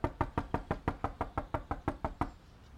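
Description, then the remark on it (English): A rapid series of about twelve sharp knocks on a yellow dressing room door by a doll in a purple hat, evenly spaced, fading into a quiet pause at the end with no voices. “The doll in the purple hat knocks on a yellow dressing room door.”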